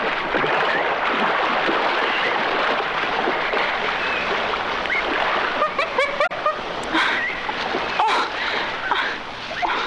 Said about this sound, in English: Blind girl struggles in the river. Tarzan arrives at the scene, dives to her rescue.